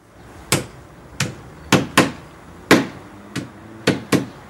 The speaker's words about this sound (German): Weihnachtslieder auf Fleisch geklopft. Das ist so eine alte Tradition bei uns. Das klang immer so.